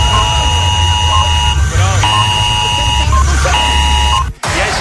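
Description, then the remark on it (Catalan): An electronic alarm buzzer, set to go off at 11 o'clock, sounds in repeated steady beeps, each about a second long with short gaps, loud over a low rumbling background before cutting off abruptly. “Jo que estava tan tranquil·la sabent que a les 11 em sonaria l'alarma, sí.”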